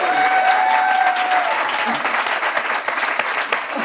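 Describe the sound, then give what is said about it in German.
An audience claps steadily throughout, a dense, even wash of many hands with no pauses. A faint whistle-like tone drifts over the applause early on before fading. “Ihr dürft klatschen.”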